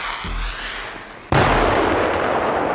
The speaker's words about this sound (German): Dieses Geräusch ist für die einen ein Graus, für die anderen toll. Silvesterfeuerwerk mit Böllern und Raketen.